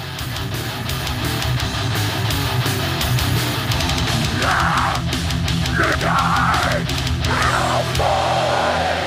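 A loud, dense rock track plays with steady pounding drums, driving distorted guitars and wailing melodic lines rising over the top in the second half, with no talking.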